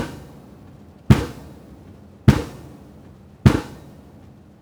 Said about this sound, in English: Okay, so the bubble curtains make a huge difference in mitigation of underwater noise. This is the actual underwater noise of the hammering of monopiles at sea.